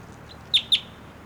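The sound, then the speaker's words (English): Two sharp, high-pitched bird chirps from a bird just collected and logged as number 690, JGG 614, each a short downward-sweeping note, preceded by a fainter brief peep over a quiet background hiss. No one speaks. “Just collected that bird.”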